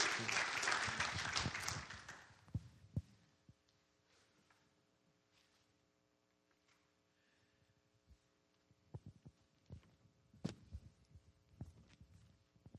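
Loud crowd applause welcoming a guest speaker fills the opening two seconds, then trails off into scattered claps and a low steady hum, followed by occasional knocks and shuffling sounds.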